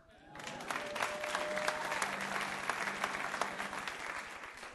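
A crowd breaks into steady applause, many hands clapping in a dense, even patter that swells quickly and holds for several seconds, with a faint tonal hum running underneath.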